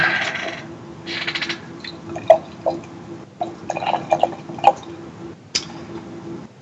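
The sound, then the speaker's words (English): A can or bottle of 12.5% beer brewed with malts and hazelnut coffee from Rostov's is cracked open with short hissing bursts and sharp clicks, then poured almost black with a thick, dense head, with bubbly, dripping liquid sounds, alone, over a faint steady hum. “So, cracking it open.”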